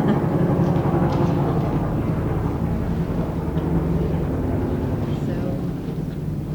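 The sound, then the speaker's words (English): A helicopter drones loudly overhead, its steady low rotor thump and engine rumble filling the whole stretch and fading only slightly near the end. “well, there comes the helicopter.”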